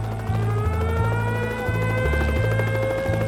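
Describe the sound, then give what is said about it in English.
A helicopter flying, its engine whine and deep rotor throb holding steady and loud throughout, with a low humming pulse underneath and no voices. “On board the helicopter on that late May evening in 1978,”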